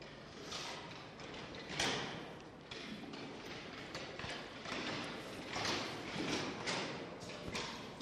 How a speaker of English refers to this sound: Just first two or three rows and just gather around the front here. Sorry if that removes your comfort zone a little bit, if I've just taken your chairs away.